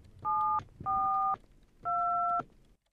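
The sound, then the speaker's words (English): Someone dials a phone call: three telephone keypad dialing tones, each a steady two-pitch beep lasting about half a second, separated by short pauses over faint background noise. “I must call him and find out where he is.”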